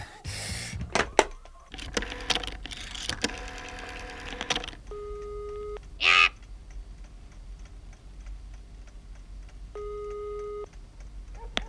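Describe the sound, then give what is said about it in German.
A telephone is dialed at 9:30 in the evening with a quick run of mechanical clicks, followed by two ringing tones spaced several seconds apart over a faint hum, with no one speaking. “Der erste Detektiv, der um diese Zeit allein in der Zentrale saß und noch recherchierte, griff sofort zum Telefon.”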